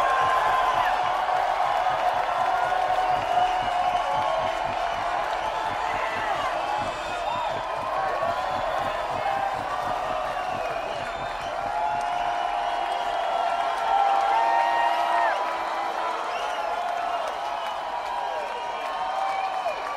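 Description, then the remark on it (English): A large crowd cheers and screams continuously, a loud, dense roar with many high voices shrieking and whooping over one another, sustained without a break throughout. “Talk to me, people, talk to me. Let me hear you scream.”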